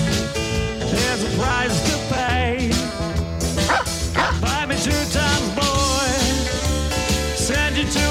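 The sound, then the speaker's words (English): A dog, Major, the Biden dog, barks and yips repeatedly and loudly over a dense, continuous musical backing that runs steadily throughout. “I think that dog just knows evil when it smells it.”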